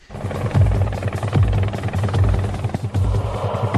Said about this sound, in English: Now, this week on Last Comic Standing, did they do some kind of weird helicopter gag where they were all flying in the helicopter or something?